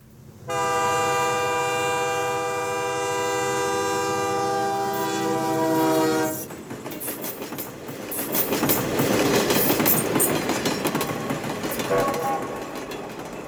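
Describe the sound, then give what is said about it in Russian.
An express train passing: a long, steady, harmonic horn blast holds for several seconds, then gives way to a loud roaring, rattling rush of wheels and carriages that swells and continues. “Курьерский.”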